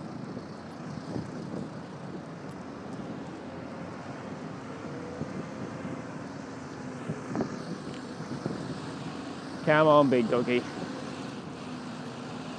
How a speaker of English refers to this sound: Alright, so we've now turned left onto Lambeth Bridge. You can hear there's a lot more traffic. There's a bus going past. That'll be probably the 507, I would have thought.